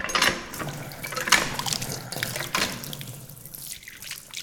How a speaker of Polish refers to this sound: I tu jest woda święcona. Tutaj łodzianie przyjeżdżają po wodę święconą. Jest taka pompa, studnia.